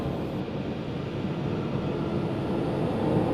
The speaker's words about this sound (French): Le vent qui souffle.